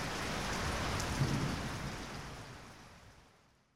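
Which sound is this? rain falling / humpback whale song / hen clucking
rain falling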